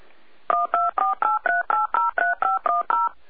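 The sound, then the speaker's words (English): A rapid run of about a dozen telephone touch-tone beeps from a call coming in on another phone, evenly spaced and clear, each a short dual-pitched tone, with no voices present. “We've got somebody else on the other phone.”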